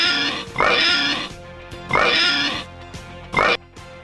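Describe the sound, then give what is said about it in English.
Three loud, harmonically rich pig oinks and squeals, evenly spaced about every second and a half, with a faint low rumble between them and no talking. “PDB, give us the oinks.”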